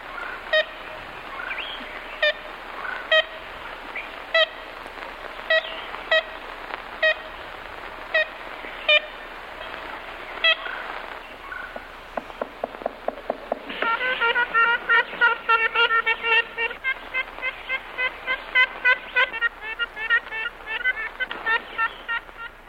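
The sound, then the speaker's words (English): Ivory-billed woodpecker contact calls from a historic recording by Arthur Allen and Peter Paul Kellogg: a long series of nasal, horn-like toots, spaced out at first, then coming faster and overlapping near the end as if two birds call together. No talking. “we promised to play the sound of the ivory build, so Bill's going to play that right here”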